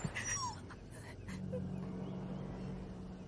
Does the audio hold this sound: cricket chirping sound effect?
no